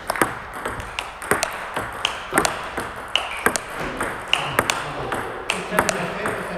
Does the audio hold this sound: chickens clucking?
no